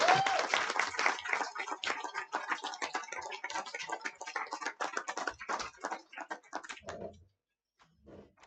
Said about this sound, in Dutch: Precies, nog één keer een applaus voor alle mensen hier die afscheid nemen.